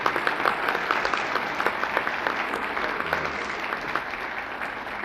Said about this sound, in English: I would like to introduce for a bow, another fellow citizen of our industry and of our community, and a good friend, Arthur Lake. And now, ladies and gentlemen, your applause.